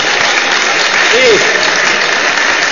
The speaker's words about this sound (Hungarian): Az első tapsot most kapjuk. Igen.